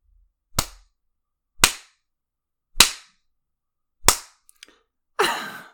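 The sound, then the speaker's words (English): Sharp, loud smacks of a hand spanking buttocks, four evenly spaced about a second apart, then a couple of faint ticks and a final, slightly longer slap. No voices. “With every smack, your whimpers grow louder and louder.”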